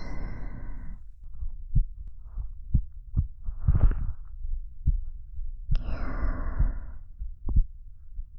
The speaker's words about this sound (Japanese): 私の心音、聞こえる？少しだけ速くなった気がする。ドキドキ